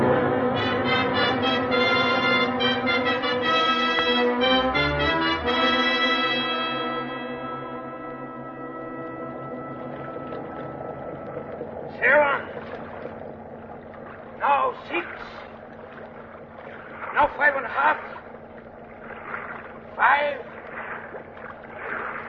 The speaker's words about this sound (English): Now get your line out and let's get those engines revved up.